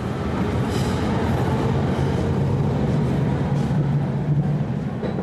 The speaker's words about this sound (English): A German railway station. Near a side entrance, a white awning stretches over a line of people.